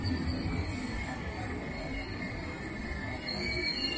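A steady, dense rumble of a train station fills the space, with low mechanical drone and faint high metallic whining from rail cars running continuously throughout, no distinct voices.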